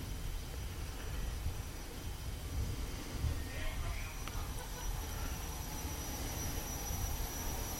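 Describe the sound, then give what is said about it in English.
A steady low rumbling drone fills the space, like engine hum inside an airplane cabin, with a faint brief chime-like tone partway through and no clear voices. “Doesn't that really sound like you're on board the aircraft?”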